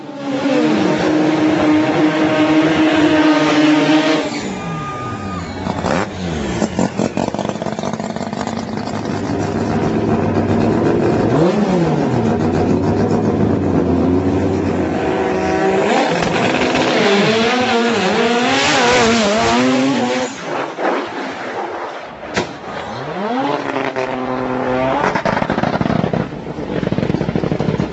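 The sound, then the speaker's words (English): Loud racing engines roar and rev hard, their pitch climbing in repeated sweeping bursts as cars launch and shift, with a steady mechanical drone throughout and no talking. Drag racing cars launching down the track at the semifinal round of the Toyo Tires Pro Class Elimination, against the new Beetle entry of Ron Loomis Racing. “We will catch up with Abel at the semifinal round of the Toyo Tires Pro Class Elimination, where he was matched up against the new Beetle entry of Ron Loomis Racing.”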